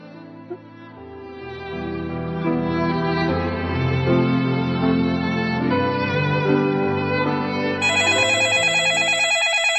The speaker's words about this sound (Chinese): 阿文被电话铃惊醒了，揉了揉惺忪的睡眼，用力地伸了个懒腰。电话是经理打来的，他看了一下表，已经上午九点多了。